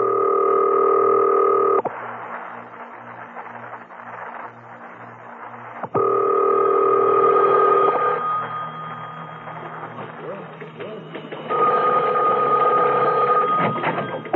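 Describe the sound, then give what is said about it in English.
A telephone being dialed to make a call: steady electronic tones switch on and off between stretches of rapid, regular clicking pulses. It is clear, with no voices. “Now, I must have quiet while I make this call.”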